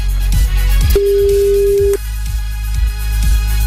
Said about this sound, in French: le téléphone sonne. Attention.